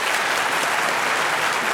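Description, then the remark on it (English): An audience at a debate applauds steadily to vote for the winning side, a dense wash of many hands clapping at an even, fairly loud level throughout, with no voices standing out. “If you believe the winner of this debate was yes, please applaud.”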